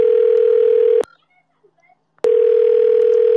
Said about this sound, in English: I'm calling you. Moshimo. Answer the phone.